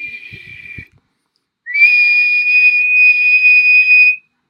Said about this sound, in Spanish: Tenemos una tetera, que es el envase. Tenemos el vapor, que cuando se calienta esa tetera, se junta. Y luego las teteras antiguas tenían un silbido. Un silbido.